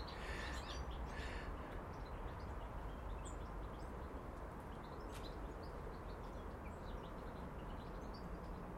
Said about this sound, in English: Listen to those wee goldfinches chatter to each other.